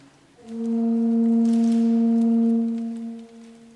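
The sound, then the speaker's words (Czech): A single organ pipe, played to show how the pipe's length sets its pitch, sounds one steady, low-pitched tone with a rich set of overtones, swelling in quickly and holding for nearly three seconds before fading, with no talking over it. “A v případě, že ta píšťala má určitou délku, pokusím se zahrát na ní.”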